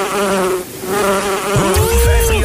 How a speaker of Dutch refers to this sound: Ja, ik weet niet hoe dat bij jou zit, maar ik ben toch altijd onrustig hoor. Als er een wesp of zo bij me in de buurt vliegt. Of een bij bijvoorbeeld.